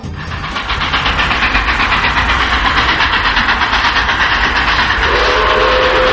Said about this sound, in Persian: چند لحظه بعد صدای سوت قطاری اومد.